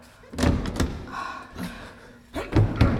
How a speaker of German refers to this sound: Ich krieg die Tür nicht auf. Etwas Schweres scheint dahinter zu liegen.